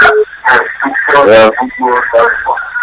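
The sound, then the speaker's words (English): A radio plays loudly in a caller's background over a phone line, its band-limited sound full of voices and broadcast chatter with continuous, uneven energy throughout. “Yes, please turn down the radio or turn it off or move away from it.”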